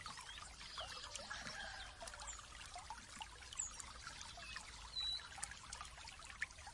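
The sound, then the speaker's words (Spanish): Water pours and trickles steadily at a soft, even level, with a faint bird chirp or two breaking through near the middle and later on. “Permite que esta agua te habite, un agua nueva, una vitalidad fresca.”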